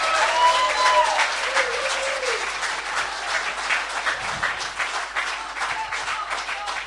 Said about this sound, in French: D'habitude, on dit, on est un peu derrière, on les pousse et tout, mais là, ils se sont séparés en groupe et ils ont géré tout le long du culte vraiment tout seuls. Ça vient tous deux, les idées, donc juste si on peut les applaudir. Merci.